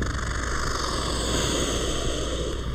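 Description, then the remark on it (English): An American alligator at the San Diego Zoo lets out a long, steady fluttering hiss, a loud breathy rush of noise that holds evenly for nearly three seconds with no voices over it. “And the American alligator.”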